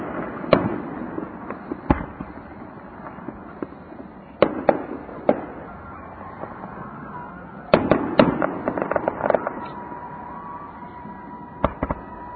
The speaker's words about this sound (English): I think they're just having a carnival at the beach, and they decided to have fireworks, too.